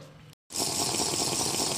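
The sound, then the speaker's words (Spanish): Loud sipping of water, a steady wet rushing sound that starts after a brief silence and continues without a break to the end, with no voices. “Sorbito de agua.”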